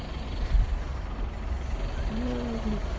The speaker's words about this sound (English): Just see where I'm going. School's out, so the traffic is a little unpredictable.